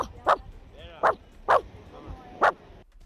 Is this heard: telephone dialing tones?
no